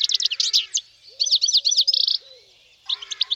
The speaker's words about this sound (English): Goldfinch.